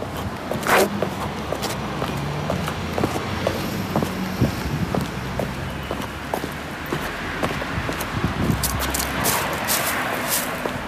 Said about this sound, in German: Und zwar bin ich da mit ganz normalen Sneakerschuhen auf dem Gehweg gelaufen.